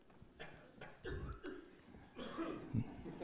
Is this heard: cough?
yes